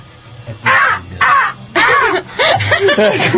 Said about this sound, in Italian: Una cornacchia. Un esempio.